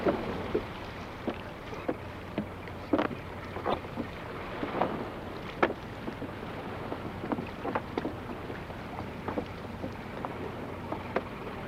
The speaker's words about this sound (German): Vor dem nächsten Fang rudern die Fischer das Boot in Ufernähe zurück. So vermeiden sie unnötige Bewegungen des Nachens, wenn sie das Netz erneut aufsetzen.